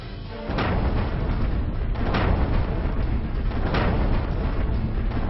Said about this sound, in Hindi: वो भागते फिर रहे हैं, लेकिन ये आतंकवादी जिधर भी जाते हैं इराकी फौज और कुर्दिश फाइटरों की गोलियां और मोर्टार उनका पीछा करते हैं, उन्हें चुन चुन कर मारते हैं।